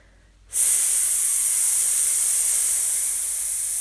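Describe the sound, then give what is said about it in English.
A person exhales a long, steady "sss" hiss as a breathing exercise, like air escaping a deflating balloon. It starts abruptly after a brief silence and holds fairly loud for several seconds. “We're going to do it with an S sound. So think about deflating like a balloon that is running out of air.”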